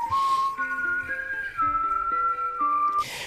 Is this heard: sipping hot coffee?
no